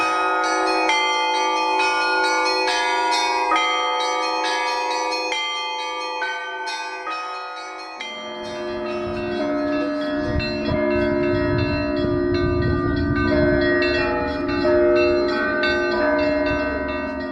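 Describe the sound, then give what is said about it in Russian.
Church bells of the Trinity Vladimir Cathedral peal continuously during a large bell-ringing concert closing the 15th anniversary Easter festival of bell-ringing art: layered high chimes ringing together, joined midway by deep booming bass bells that thicken the sound into a loud, rich clangor. “мы ведем репортаж из Троицы Владимирского собора, где сейчас проходит большой концерт колокольного звона.”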